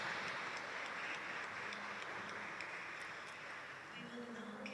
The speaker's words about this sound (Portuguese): e agora uma salva de palmas para os nossos dois convidados. Muito obrigado.